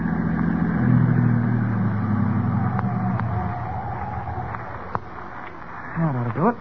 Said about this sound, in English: Yeah, this looks like as good a place to park as any. I'll drive the car off the road.